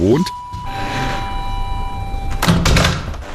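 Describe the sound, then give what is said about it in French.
An apartment door is opened: a steady electronic buzz holds for about two seconds, then the latch clunks and the door swings open with a short rush of noise; the door of a large 70-square-metre two-room apartment in Friedrichshain, Berlin. “nous ouvre la porte de son grand deux pièces de 70 mètres carrés, une perle rare aujourd'hui à Berlin, avec parquet, balcon et grande hauteur de plafond”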